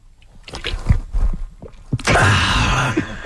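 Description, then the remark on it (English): Soft handling noises and small gulping sips of a drink during a heat wave, followed by a steady burst of rushing, airy noise like liquid pouring or a breathy exhale after drinking. No one speaks. “I'm just very thirsty from this heat wave, so I got to take a sip”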